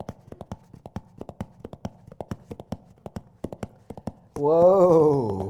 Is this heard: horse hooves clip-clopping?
yes